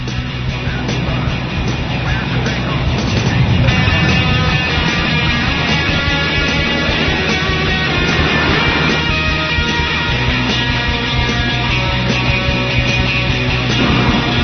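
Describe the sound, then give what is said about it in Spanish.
Aircraft sounds from Wings of Europe, an aerial combat video game by the designer of European Air War: a loud, continuous engine-like drone blended with layered sustained tones, holding steady for the whole stretch with no one talking. “Vamos volando, y nunca mejor dicho, porque el primero va de eso, va de vuelos, va de aviones, y suena así de bien.”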